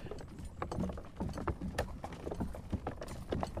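A pony named Kitty snorts happily amid a steady clatter of hooves and the rattling, creaking noise of a pony and trap, a busy stream of short knocks running throughout with no talking.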